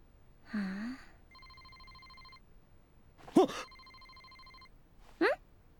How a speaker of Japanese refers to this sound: なんで電話なんだよ。